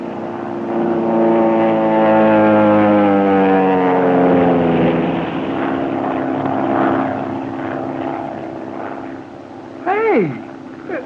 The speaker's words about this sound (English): I would suggest we all sit perfectly still, make no move as the plane goes over, and concentrate on trying to discover their purpose in these repeated dives.